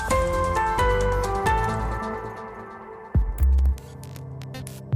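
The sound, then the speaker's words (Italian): A dial-up modem handshake plays on its own: steady electronic tones and beeps, a quick downward sweep, then harsh bursts of crackling static and hiss, fairly loud and close. “Modem.”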